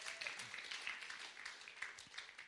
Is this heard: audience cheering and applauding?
yes